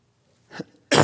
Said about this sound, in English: Excuse me. Cough right in my microphone.